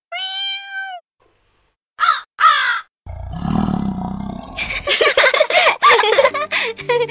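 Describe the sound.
A voice mimics animal sounds for a small play: a short cat meow, then two harsh crow caws, followed by a long, loud, rumbling lion roar that grows rough and growly toward the end.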